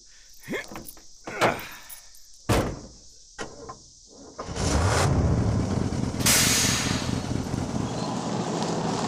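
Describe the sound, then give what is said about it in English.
A few sharp clunks and bangs, then a heavy truck engine rumbles in loudly, its pitch rising, before a long burst of air-brake hiss as the truck pulls in and comes to a halt. “I'll pull in and you load up.”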